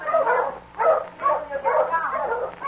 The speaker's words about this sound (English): my dog's out there on that piece of ice